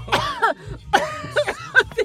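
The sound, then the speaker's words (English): A fairly loud run of coughing: about five or six rough, throaty bursts in quick succession, a harsh choking fit with no talking over it. “Made a cough.”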